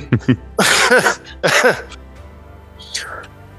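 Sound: cough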